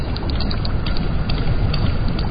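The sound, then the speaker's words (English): Sperm whale clicks rattle in quick, uneven bursts over a dense, muffled underwater rumble in the Atlantic Ocean, steady and fairly loud throughout, with no voices. “Only she knows what these clicks mean.”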